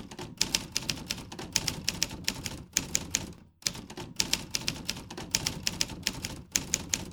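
Steady clatter of a mechanical typewriter in Köln, keys striking in quick irregular bursts, with a brief pause partway through before the typing resumes; the end-of-line bell sounds when a line is finished. No voices.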